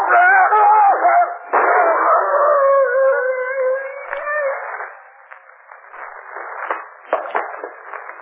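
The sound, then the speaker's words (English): A wolf howls in long, wavering, overlapping wails that rise and fall for several seconds, then fade into a faint crackly, rustling background with scattered soft clicks. “The wolf's coming for me.”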